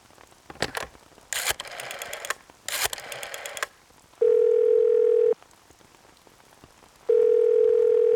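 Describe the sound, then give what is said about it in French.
A rotary telephone is dialed to call the Blue Rabbits company, with bursts of whirring, clicking dial sounds, then two long, steady ringing tones sound through the line, separated by a pause. No one speaks. “Appelons les lapins. Tiens, le téléphone est là.”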